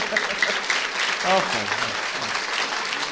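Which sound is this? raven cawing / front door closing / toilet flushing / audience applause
audience applause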